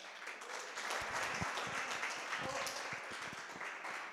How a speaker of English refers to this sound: A big round of applause